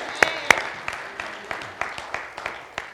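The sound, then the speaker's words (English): An audience claps in praise of God: two sharp, loud claps ring out first, followed by a looser stream of lighter, irregular claps from the group, with no one speaking. “Y'all give him a hand clap of praise, if you would.”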